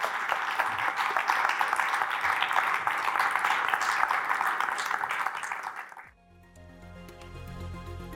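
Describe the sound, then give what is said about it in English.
Sustained applause from an audience at the UK Investor Show for five panel guests standing up, a dense, steady wash of many hands clapping for about six seconds before it cuts abruptly to quiet music with a low, pulsing tone. “And I'd like you all to just give our panel guests Algy Hall, Gervais Williams, Stephen Yeu, Gabriel Boyle, and George Barrow a round of applause.”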